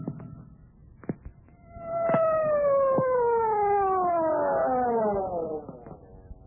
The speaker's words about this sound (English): But why the siren? The only traffic out here is on horseback.